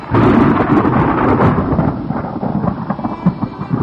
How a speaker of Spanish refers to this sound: De nuevo comenzó a llover tupido sobre este pobre perro.